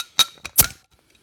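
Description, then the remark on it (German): Glasses clink together in a toast: three quick, bright knocks over about half a second, with a short ringing tone after the first, then silence. “Prost. Schöner Sound.”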